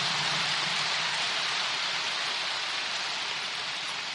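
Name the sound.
audience applause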